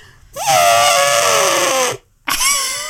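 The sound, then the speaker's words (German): A person imitates an elephant's trumpet with a loud, brassy, strained vocal blast that rises and then slowly sinks in pitch, breaks off briefly, and returns as a second, shorter blare. “Ich kann Elefanten nachmachen.”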